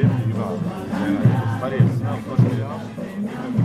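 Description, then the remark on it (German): A crowd on Treffpunktstraße, not far from the train station in Avignon, gathers around a group of very colourfully dressed people in the style of traditional Andean costume. Many overlapping voices form a steady, fairly loud hum of chatter, with occasional brief swells where individual voices rise above the rest. “Das Publikum versammelt sich um eine Gruppe von sehr bunt gekleideten Menschen im Stil der traditionellen Tracht der Andenvölker Lateinamerikas.”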